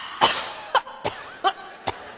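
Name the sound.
cough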